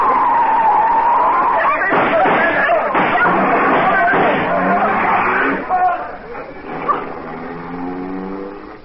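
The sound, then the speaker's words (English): A car skids with a long, loud tire screech and roaring engine, followed by a couple of sharp knocks as the car strikes a person, then the noise fades into rumbling traffic and voices. “Oh, but we struck one of them. I felt the car hit him.”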